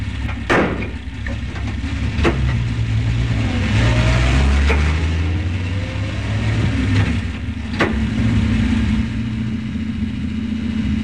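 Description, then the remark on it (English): A truck engine rumbles steadily as it drives along a road at night outside Le Havre, its low drone shifting in pitch, with a few sharp knocks and rattles punctuating the continuous road noise. “After the titles, we shift to outside Le Havre, and a truck going through the night meets a soldier along the road who he gives a ride to.”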